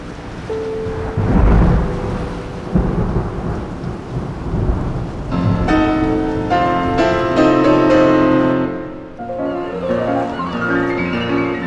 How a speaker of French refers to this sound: La pluie tombe violemment et ils ne sont pas encore rentrés. Quel déluge! L'orage fracasse la nature. Les éclairs transpercent ma cellule. C'est terrifiant.